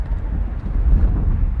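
Steady wind blowing hard into the microphone on an esplanade overlooking the city of Yerevan, a dense low rumble with gusty buffeting that stays loud and continuous throughout, no voices present.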